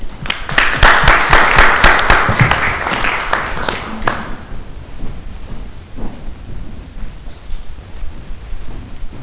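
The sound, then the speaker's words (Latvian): A burst of group applause at a town council meeting, thanking a council deputy, dense and loud for about four seconds, then quickly dying away into quiet room noise with a few scattered claps and murmurs. “Un ar aplausiem, ja Ruta klausīsies šo te mūsu domes sēdes ierakstu, teiksim Rutai paldies!”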